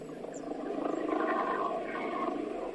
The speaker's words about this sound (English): sorry, there's a helicopter going by.